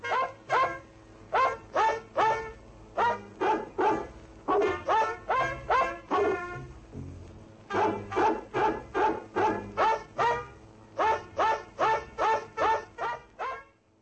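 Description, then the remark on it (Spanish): A dog in Prague barks over and over in quick, rhythmic bursts, loud, with short pauses between volleys and a low steady background hum. “Por general están muy bien educados y no hay ningún problema con los perros.”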